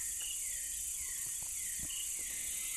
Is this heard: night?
yes